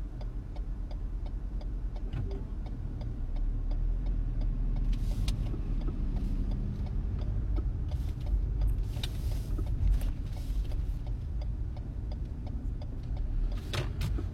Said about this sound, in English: Billion cars right here. This is backed all the way up.